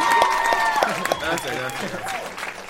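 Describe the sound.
An audience applauds with steady, dense clapping that carries on throughout, while voices talk and call out over it.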